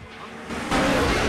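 A Challenger, a Camaro and a Dodge Viper roar past on a street, a loud engine and road noise that surges abruptly halfway through, with a hint of tire squeal in the rush. No voices.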